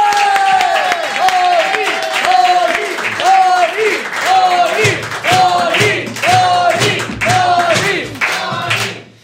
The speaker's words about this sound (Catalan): Bé, doncs rebem un fort aplaudiment a Toni Soler!